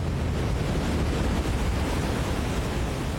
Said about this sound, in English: Foaming white water gushes down over black rocks, sending up a huge mist.